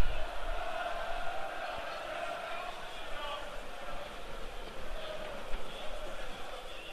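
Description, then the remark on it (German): Steady stadium crowd murmur with scattered shouts and whistles rising and falling, a continuous dense wash of many voices at moderate level, with no clear cheering peak, from unhappy spectators during the first half of a football match between WSV and Heidenheim. “Zuschauer sind unzufrieden.”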